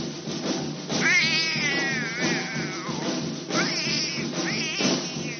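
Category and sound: animal, cat meowing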